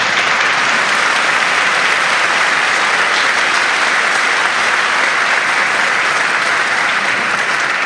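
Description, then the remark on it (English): Sustained applause from an audience at St. Philip Deacon for the musicians at a holy night service, a dense, steady wash of many hands clapping at a loud, even level for the whole stretch without voices or breaks. “First of all, I know you all want to do this, so how about a round of applause for our wonderful musicians?”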